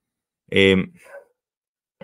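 A dog lets out one loud bark, followed by a softer trailing yelp, then a brief pause before another bark starts right at the end.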